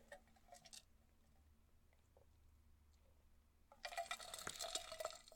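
drinking water

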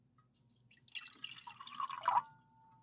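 water being poured

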